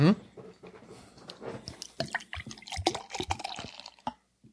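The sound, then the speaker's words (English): Beer pours into a glass in uneven glugs and splashes, a bubbly, trickling stream that rises and falls over a few seconds before stopping abruptly. “I think I poured a lot.”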